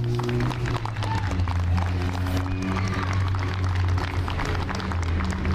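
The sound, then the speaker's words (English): An audience at a Memorial Day address claps steadily and densely for the whole stretch, applauding two veterans, a sustained wash of applause at an even, loud level over a low, constant hum. “Will you all please join me in applauding these two extraordinary Americans?”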